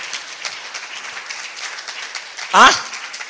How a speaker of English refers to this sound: Oh, the way you are clapping, I'm not sure you got what I said.